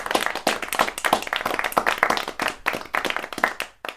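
A burst of applause, many hands clapping in a dense, steady patter that holds strong for a few seconds before tapering off at the end.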